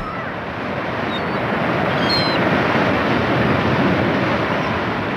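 A steady, rushing roar of ocean waves breaking on the shore, loud and continuous throughout, with no distinct individual crashes and no voices.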